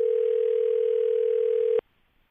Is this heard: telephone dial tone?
yes